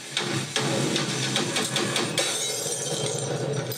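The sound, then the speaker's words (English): A loud crash of breaking glass as a light smashes, with sharp clinks and scattering shards, followed by a rattling, tinkling tail of debris settling for a few seconds, with no voices. “A light smashes.”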